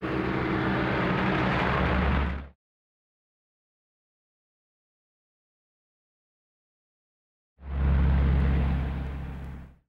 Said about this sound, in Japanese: あ、車が通るよ。